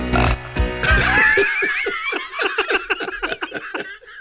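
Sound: belch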